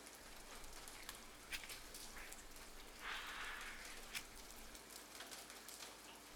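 Steady rain falls in a continuous soft hiss, with scattered brighter drips and taps. No one speaks.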